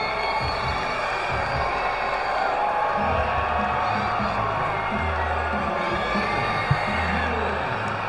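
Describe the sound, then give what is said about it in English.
A large baseball stadium crowd cheers and shouts steadily during a game between West Michigan and Lansing, with a runner on base in the sixth inning: a dense wash of voices with scattered whoops rising from the roar, sustained and fairly loud throughout. “And again, a runner on base, just the third for West Michigan, and this crowd trying to get into it.”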